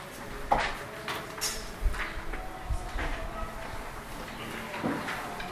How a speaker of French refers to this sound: tu peux fermer la porte, si ça ne te dérange pas.